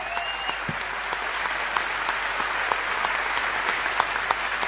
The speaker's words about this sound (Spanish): Vamos a agradecer a todos la presencia aquí. Vamos a prolongar este aplauso que hemos recibido para honrar a Patricio Barton.